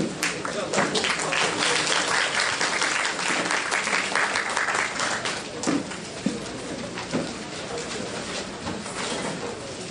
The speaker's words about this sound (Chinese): 也非常谢谢教授哈，今天为我们做一个精彩的演讲，我们再次热烈掌声谢谢朱教授。